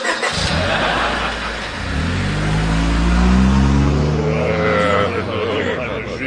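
A car engine starts up and revs, its pitch climbing steadily as it pulls away for a drive of about 10 miles, staying loud and rumbling throughout.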